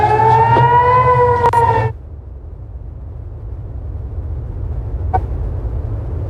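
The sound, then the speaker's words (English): An air raid siren sounding over Israeli cities such as Tel Aviv and Jerusalem wails loudly and steadily for about two seconds with strong harmonic tones, then cuts off, leaving a low background rumble and one brief knock. “Air raid sirens are sounding over Israeli cities, including Tel Aviv and Jerusalem, and the booms of missiles being shot down have been heard.”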